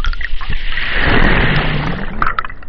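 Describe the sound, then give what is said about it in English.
Hydrophone recording of a very small wave washing through the roots of a sable palm on an island off the coast of Georgia, recorded by Haskell: a dense, rushing swell of churning water that builds and fades over a few seconds, washing sand grains away, with scattered crackles and pops near the end. No voices. “So this is a very small wave reaching into the roots of a sable palm.”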